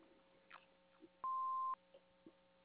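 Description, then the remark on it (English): A single answering machine beep, a steady, loud electronic tone lasting about half a second, with a few faint clicks and quiet line noise around it and no talking. “We cannot answer right now, so leave a message after the beep.”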